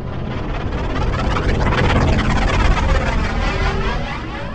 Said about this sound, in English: The command shuttle descended, engines grumbling as its huge wings folded upward.